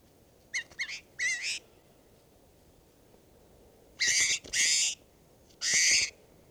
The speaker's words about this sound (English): This is bird 518.